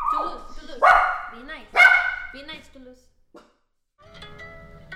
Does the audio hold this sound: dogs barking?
yes